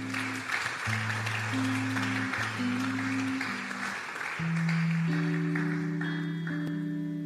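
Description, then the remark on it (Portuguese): An audience claps steadily and densely for several seconds, applauding the Lord, while sustained keyboard or organ chords hold and shift underneath; no one speaks. “Se você crê, diga amém e aplauda o Senhor.”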